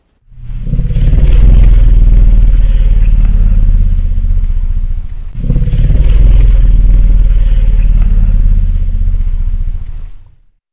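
An elephant's "let's go" rumble, a communication ritual often made when elephants decide it's time to leave a watering hole: two long, deep, throbbing low-frequency calls in a row, each lasting about five seconds, loud and steady, with no voices.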